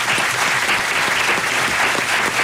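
An audience applauding steadily for a performers' assistant, a dense wash of many hands clapping at an even level throughout, with no voices standing out.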